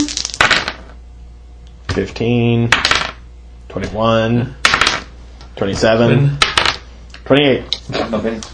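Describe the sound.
Dice clatter and tumble across a hard tabletop in several sharp, rattling bursts, with short stretches of voices talking in between.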